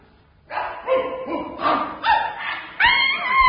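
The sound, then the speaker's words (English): Several long-haired sheepdogs bark one after another in a quick, steady sequence as they number off from the right, each loud bark following the last, with a final sharper, higher yelp. “40 long-haired sheepdogs. Which one is he on? I'll soon find him in a military way. Dogs from the right number.”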